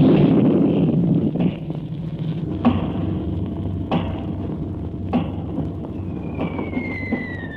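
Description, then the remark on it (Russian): Artillery shelling of a district of Leningrad during the siege in June 1943: a deep, continuous rumble punctuated by several sharp thuds about a second apart, with a thin descending whistle near the end. No one speaks. “Район подвергается артиллерийскому обстрелу.”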